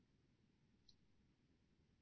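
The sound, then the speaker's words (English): A single soft click of a computer mouse button as someone clicks the wrong button, quick and faint, against a low steady background hum with no talking. “I need to clicking on the wrong button here.”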